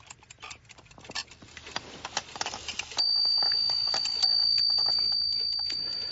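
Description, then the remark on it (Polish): A heavy, solid-metal antique portable clock, carried in a case over the shoulder and striking the hours and half hours, ticks quietly, then strikes two o'clock on a bell: two bright, high-pitched chimes, the first ringing on steadily and the second overlapping it as the tone slowly fades. “Ten wydzwania w dzwonek godzinę.”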